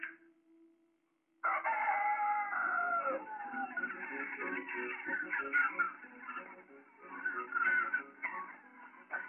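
A rooster crows loudly, its call stretching over several seconds, with chickens clucking and squawking around it; no one speaks.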